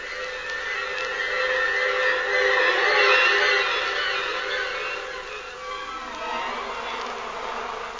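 A bee buzzes steadily for the whole stretch, its droning hum swelling slightly in the middle before easing off, with no voices present.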